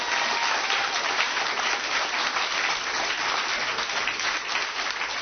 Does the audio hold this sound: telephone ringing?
no